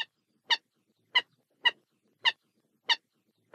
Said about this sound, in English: Today we've got the song of one of the subspecies of the common galunole.